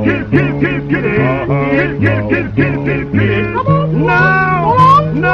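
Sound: cat meowing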